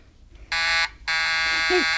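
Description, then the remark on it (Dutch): A telephone on a private line to the office rings in two loud, harsh, buzzing bursts, a short ring followed by a longer one, with a brief faint voice sounding underneath the second ring. “Wat is dat voor geluid? De telefoon.”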